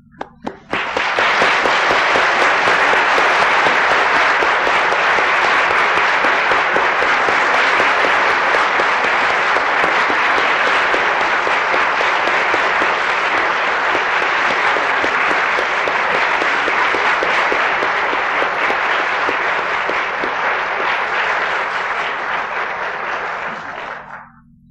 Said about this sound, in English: But I do want to express publicly my gratitude to him from all of you, and may I ask you to join me in that gratitude by rising and applauding, and then I will dismiss us with a benediction.